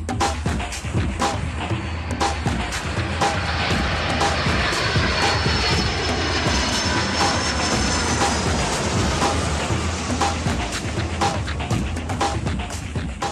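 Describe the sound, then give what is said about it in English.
The engine of a Mirage 3/5 aircraft roars steadily for the whole stretch, its dense drone laced with rapid rhythmic pulses and crackles and a faint high whine on top. “And now here's David Vanderhoof with the airplane of the week.”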